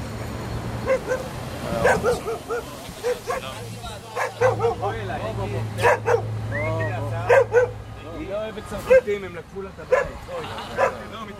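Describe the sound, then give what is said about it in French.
A dog barks repeatedly in sharp, irregular bursts, mixed with yips and whiny sounds, while voices murmur in the background and a low steady hum runs underneath. “Il dit le chien n'aime pas les Français parce que les Français leur ont pris leur maison, parce que c'est les Français qui ont acheté toutes les maisons de Tel Aviv.”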